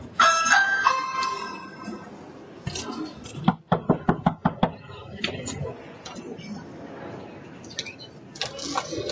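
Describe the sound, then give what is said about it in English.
Several sharp, fairly loud knocks on a door land in a quick uneven burst midway through, with muffled voices and background bustle before and after. “We can't answer the door right now”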